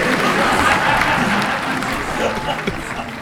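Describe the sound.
A large crowd gives a round of applause for a few seconds, dense steady clapping with scattered cheers and shouting voices mixed in.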